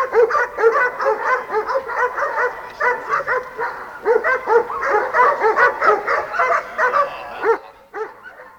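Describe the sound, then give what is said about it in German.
Several dogs bark loudly and almost without pause, their rapid overlapping barks forming a dense, agitated chorus, with a few yips mixed in before it briefly thins out near the end. “Die Leute vom Wobong waren schweigsam, nur die Hunde machten sich lautstark bemerkbar.”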